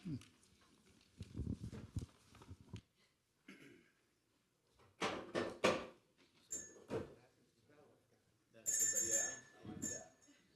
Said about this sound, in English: I'm glad somebody's finally using that thing. You guys listened to that bell pretty well, so we're going to remember that for future events.